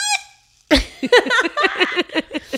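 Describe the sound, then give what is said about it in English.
The timer of the 5 Second Rule game makes its electronic sound effect: a brief buzzy tone, a short pause, then a quick, steady run of about a dozen squeaky, warbling chirps, fairly loud with no talking. “And there's one thing that I love, and it's that the 5 second rule actual timer thing makes a sound effect that we will all get to know really well.”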